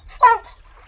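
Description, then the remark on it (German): A female dog gives one short, whiny bark, fairly loud, trailing off into a soft whimper, with no talking around it, while pointing her snout at the sea. “Mit ihrer Schnauze zeigt sie aufs Meer.”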